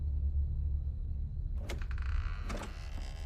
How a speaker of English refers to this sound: Slowly opens the door, scans outside.